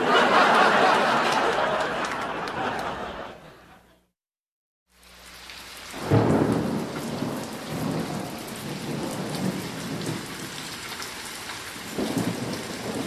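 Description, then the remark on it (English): Heavy rain pours down steadily with deep thunder rumbling through it, cuts out for about a second, then returns with a loud thunderclap and continued downpour. “I like the rain.”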